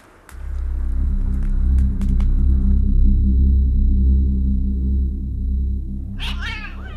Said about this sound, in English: come back, you cantankerous old cat.